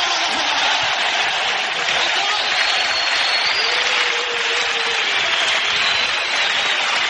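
Sustained audience applause fills the whole stretch, a dense, steady wash of many hands clapping at close range, loud and even without pause, with no one speaking over it.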